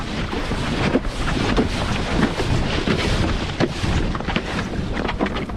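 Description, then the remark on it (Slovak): A steady rushing hiss of a hydrofoil board skimming over water as someone foils, with wind buffeting the microphone and occasional soft thumps and splashes throughout, no voices. “Tak sa to naposká, když fojluješ.”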